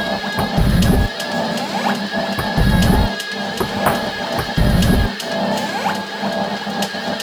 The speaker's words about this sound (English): When your dispenser is activated, you will hear a click or pecking sound. This is the normal sound of the water valve.